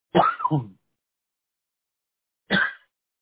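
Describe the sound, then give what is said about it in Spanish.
Two coughs from a temporary cough attributed to the weather, separated by a couple of seconds of silence. The first is longer and rough, and the second is short and sharp. Both are fairly loud and there is no talking. “Nomás la tos que me anda jodiendo un poco, pero eso es temporal por el tiempo.”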